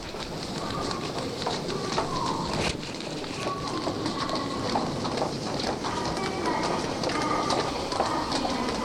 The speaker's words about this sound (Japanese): もうこれは地下鉄の改札ですね。今地下鉄の改札を出ました。出ましたというか入りました。